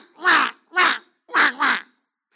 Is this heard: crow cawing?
yes